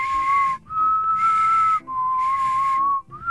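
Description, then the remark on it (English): A person does a tongue whistle, a steady, fairly high tone as high as they can get, in several sustained stretches, each broken by a brief pause or breath, loud with no talking. “That's a tongue whistle.”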